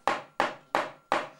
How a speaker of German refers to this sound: Der Polizist klopft ans Zugfenster.